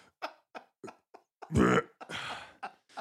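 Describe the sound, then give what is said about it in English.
A loud, drawn-out belch from a man drinking a 48-ounce soda rumbles after a few short throaty clicks and gulps, then trails into a raspier, breathy tail, with no talking over it. “He stops at Fizz and picks up like a 48-ounce soda so that I have to edit his belching out of the show.”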